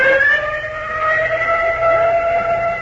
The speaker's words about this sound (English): Golly, the ambulance.